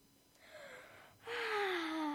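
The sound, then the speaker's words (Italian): A drawn-out breathy yawn with no talking, starting as a soft inhale that swells into a louder, tonal exhale sliding downward in pitch. “È contro l'etichetta sbagliare alla presenza di un re, te lo proibisco! Non posso farne a meno, sono molto stanco!”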